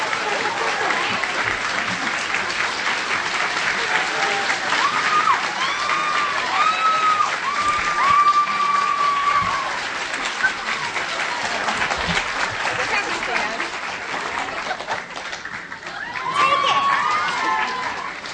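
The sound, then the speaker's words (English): Sustained, dense applause from the audience at the Free Library as Kristin Chenoweth and Tamala Edwards are welcomed, steady and loud, with scattered cheers and whoops rising above the clapping and a swell of cheering near the end. “I told Kristen coming out here, I said, there's no better crowd than the crowd at the Free Library, literate, cultured, fun.”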